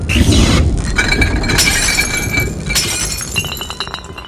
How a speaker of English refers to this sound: You didn't knock those bottles over and the lightning did!